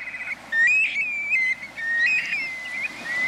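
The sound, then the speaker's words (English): A flock of young black-bellied plovers migrating south, calling with clear, plaintive whistled notes that slur up and down and overlap one another in a steady, fairly loud chorus, with no voices. “But shorebirds are social birds, so it joins other young black-bellied plovers as they make their way south.”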